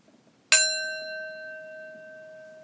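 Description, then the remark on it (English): A single singing bowl, a type of standing bell, is struck with a mallet and rings out alone with a bright metallic attack, then a long, steady, shimmering tone that slowly fades. “If you're not familiar, these bowls are a type of standing bell that can be rung by striking it with a mallet like this.”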